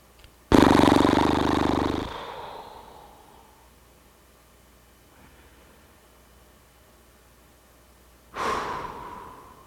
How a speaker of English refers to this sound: And the other thing that helps, of course, is to breathe. Slowly. Especially to slow down the out-breath. Doing the horse breath actually really helps. You'll often hear climbers do this.